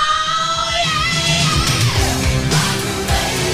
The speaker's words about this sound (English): That sound. That classic scream.